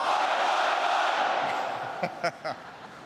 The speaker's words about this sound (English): Well, I know that you all have a great Australian cheer. I want to hear it. So let me say first, Aussie, Aussie, Aussie.